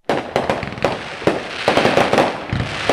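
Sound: fireworks exploding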